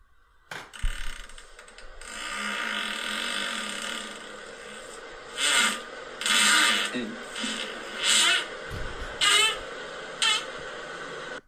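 A series of farting sounds on a toilet, several sputtering bursts of varying tone and length rising over a steady background hiss, with a couple of deep low rumbles.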